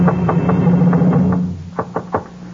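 Knocking on the door of the Waverly Sheriff's Station: a run of dull, evenly spaced raps over a low steady hum, then a short pause and three sharper, louder knocks. No voices.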